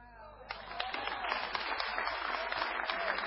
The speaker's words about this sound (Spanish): El aplauso bien fuerte.